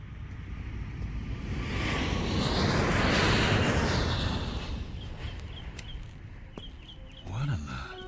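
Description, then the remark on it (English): An airplane on its way to the airport roars over the grounds, its broad rumbling whoosh swelling to a loud peak around the middle and then fading away, with birds chirping faintly and a brief voice near the end. “Does it always fly directly over the grounds? Every day, on its way to the airport.”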